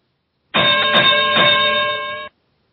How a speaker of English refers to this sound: Okay, should we get started? Let's ring the bell, Dave.